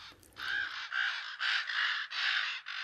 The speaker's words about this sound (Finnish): Korppi on viisas lintu, niin kuin varislinnut yleensäkin. Se on eläinkunnan kaikkein viisaimpia lintuja.